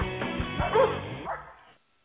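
sled dogs barking

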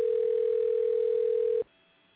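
telephone dial tone

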